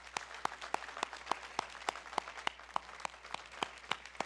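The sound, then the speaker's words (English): An audience at Crossroad applauds, giving God and the visiting Virginia State alumni a hand, with steady, evenly spaced claps cutting through a softer wash of scattered clapping, moderate in level, with no talking. “Let's give God a hand of applause, as well as Virginia State.”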